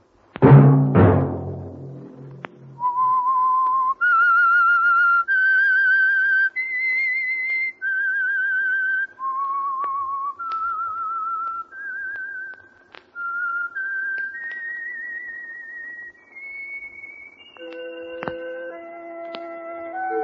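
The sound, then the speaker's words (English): A lone whistled melody of sustained, vibrato-tinged notes stepping up and down in a slow, eerie tune, clear, following a brief low sound at the start, with no talking; the theme tune of a radio program sponsored by the Signal Oil Company. “Let that whistle be your signal for the Signal Oil program, The Whistler, each Wednesday night at the same time.”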